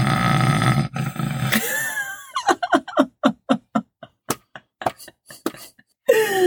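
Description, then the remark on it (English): A voice imitates snoring: a long, rough rasping drone, then a quick rhythmic run of about a dozen short, loud snorting grunts, ending with another throaty rasp. “Is that how I sound when I snore at night?”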